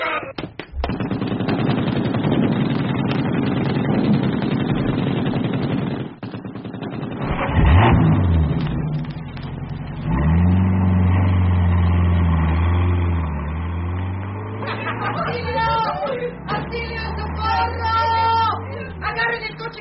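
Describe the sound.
A car engine revs up loudly and holds a steady drone as it pulls away, following a stretch of harsh, rapid bursts of gunfire, with voices faintly mixed in near the end.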